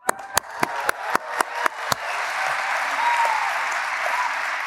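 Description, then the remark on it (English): A handful of evenly spaced, sharp claps quickly build into full audience applause, a dense and steady wash of clapping that carries on loudly to the end. “Hold your applause.”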